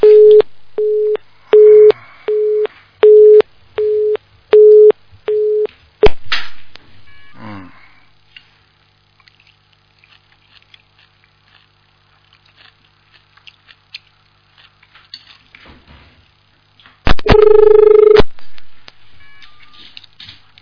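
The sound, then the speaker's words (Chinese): A telephone busy tone, heard after a caller's line drops during a radio call-in show, beeps in a steady on-off rhythm, six short pulses, then quiet with faint rustling, and later a longer loud burst of the same tone. No one speaks. “电话线断了。”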